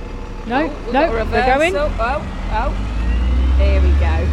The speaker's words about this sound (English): We've got a bus right next to us. It was just bus city today. Could you hurry up, mate? I mean, it's all going here. There's like 3 cars piling up.